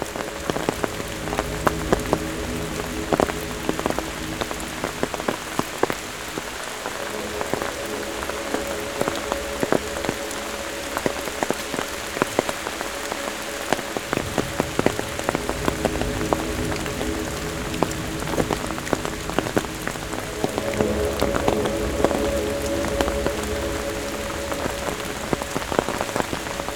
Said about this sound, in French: Sur le chemin, le clapotis des gouttes d'eau. Sur le chemin, c'est la fin de l'orage.